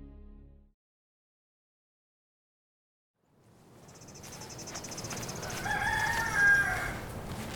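chickens

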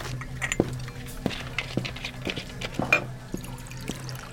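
water being poured

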